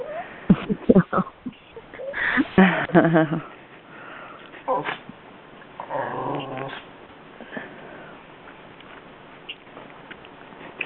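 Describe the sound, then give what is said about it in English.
A dog whimpers and cries, letting out several strained, whiny bursts between snuffling breaths, with a longer drawn-out whine midway before it settles into quieter sniffs. “Well, I'm going to go on mute because my dog is crying here.”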